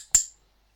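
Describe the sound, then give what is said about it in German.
A single short, bright click tone with a high, ringing edge, fairly loud, decaying quickly into silence, marking the start of a film. No voices are present. “Ich leite den Countdown ein und beim Klickton wird der Film wie immer gestartet.”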